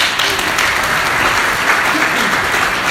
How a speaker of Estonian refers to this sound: Et, aitäh! Teeme aplausi neile siis ka!